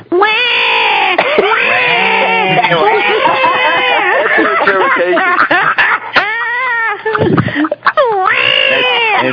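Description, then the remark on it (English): A cat named Bob meows and yowls almost nonstop, loud drawn-out cries with rising and falling pitch, some long and wavering, others short and chirpy, with only brief breaks between them. “This is what Bob sounds like.”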